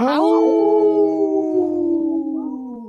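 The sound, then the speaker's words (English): A dog named Wendy, off camera during a radio show, lets out one long, loud howl that opens on a sharp, higher note and then holds a steady, drawn-out tone that sags slightly in pitch toward the end, with no talking over it. “Oh, Wendy got a howl in, too, off camera here.”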